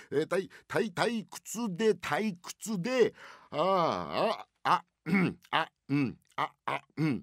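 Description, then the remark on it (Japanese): A man speaks in slow, drowsy Japanese phrases, then lets out one long, breathy, drawn-out yawn partway through before carrying on talking. The yawn sounds deliberately performed, very sleepy and relaxed, and moderately loud. “あくびですから、ごくごく眠いような、もうゆったりとした気持ちで、ああという気持ちで”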